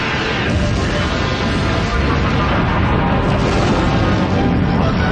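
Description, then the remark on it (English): A loud, sustained explosive roar fills the whole stretch, a dense rumbling blast with heavy low end and crackling noise that never lets up, overwhelming, with no talking. “We can't escape the explosion. The blast radius is too great.”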